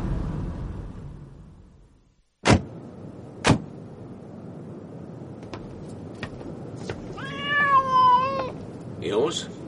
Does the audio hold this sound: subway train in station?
no